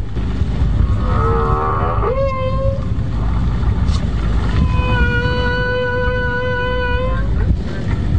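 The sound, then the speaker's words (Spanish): A male whale's song picked up by an underwater microphone lowered into the sea and played over a boat's speakers: wavering, harmonic moans and a rising sweep, then one long sustained tone, over a constant low watery rumble. “Los sonidos conmovieron a los pasajeros del barco, hasta las lágrimas cuando descubrieron las melodías de los cetáceos. Este macho, cuyo canto escuchamos ahora”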